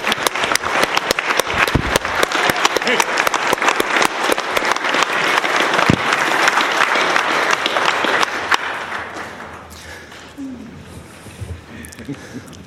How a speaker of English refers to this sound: I would like everybody to give them a round of applause and thank you guys for helping us for the week. Thank you all.